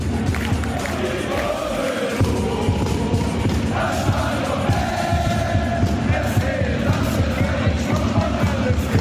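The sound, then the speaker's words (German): A large ice hockey crowd roars steadily, with cheering, whoops and yells blending into a dense, continuous wall of noise that swells slightly after a brief dip early on. “So oder, naja, so ähnlich soll's heute Abend wieder klingen im Hofer-Stadion.”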